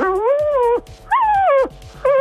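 A dog lets out loud howling yowls: two drawn-out wavering calls, each rising then sliding down, with a third starting at the end and short gaps between them. No one speaks.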